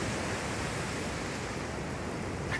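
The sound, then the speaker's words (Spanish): A steady, dense roar of stormy sea waves washing onto a beach in Oaxaca, Mexico, continuous and fairly loud throughout, with no voices present. “En fin, queridos loqueros, pues desde el mar, donde la vida es mucho mejor, me despido.”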